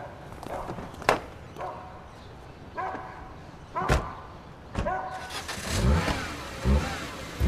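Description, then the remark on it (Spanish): A car engine revs and the vehicle pulls away, its rumble swelling toward the end, with a few sharp knocks like doors shutting and a dog barking. “Sube al coche de una vez.”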